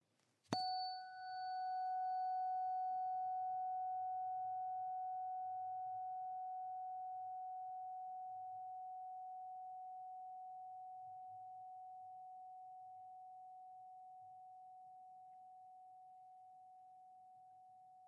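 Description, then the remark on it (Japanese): A tuning fork is struck once with a brief metallic attack, then rings as a pure, steady mid-pitched tone with faint overtones, slowly fading over about seventeen seconds without any voices. “この音を心が望むならこの音叉を選んでください。”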